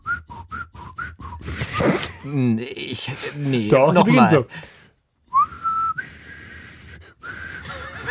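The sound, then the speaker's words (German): A person whistles the opening melody of a radio programme: a run of short notes, then talking, then longer held whistled notes that resume the tune, moderately loud. “Pfeif doch mal die Anfangsmelodie von Corso”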